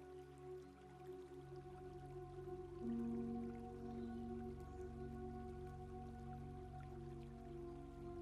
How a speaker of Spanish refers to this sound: Continúas tu paseo siguiendo el riachuelo, caminando a un ritmo agradable y tranquilo junto a él, disfrutando del sonido relajante del agua que fluye y del sonido y aroma de la naturaleza.